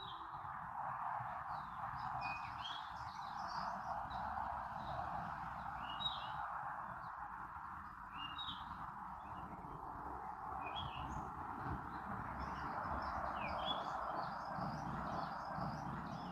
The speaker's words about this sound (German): Ich bin hier in der Natur Südafrikas. Vielleicht hörst du die wundervollen Vögel im Hintergrund. Ich bin mal ganz kurz leise, dass du einfach mal die Vögel wahrnehmen kannst.